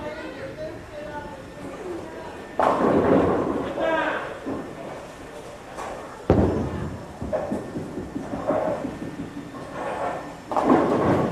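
Bowling balls rumble down the lane and crash into the ten pins, with several loud clattering strikes at intervals over a steady hum of background chatter.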